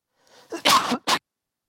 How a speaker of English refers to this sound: Pray for my cough.